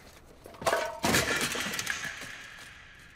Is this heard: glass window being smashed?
yes